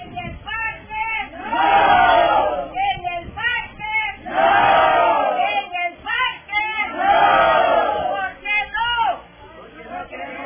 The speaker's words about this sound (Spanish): Bueno, repitamos ahí, repitámosla. Es breve el audio, pero ahí está la gente organizada, gritándole al alcalde.